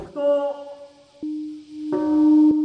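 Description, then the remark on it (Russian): The large peace memorial bell in Hiroshima, Japan, rings at 8:15 a.m. on August 6, the 70th anniversary of the atomic bombing, with deep, sustained tones. Several strikes land a second or so apart, each blooming into a humming resonance that lingers and overlaps the next. “8:15 утра 6 августа в Хиросиме зазвонил колокол мира.”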